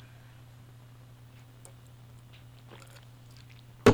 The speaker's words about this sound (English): Excuse me, I have to take a sip of coffee.